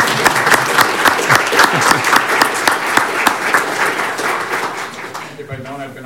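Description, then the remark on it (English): A room full of people at a meeting breaks into steady applause to welcome Mayor-elect John Giles, dense overlapping claps that carry on for several seconds before tapering off as a voice begins to speak. “You didn't hear our applause, so let us give it to you.”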